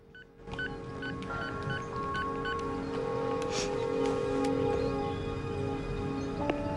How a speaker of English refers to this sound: She holds a scrap of paper in her hand and picks up the phone and dials.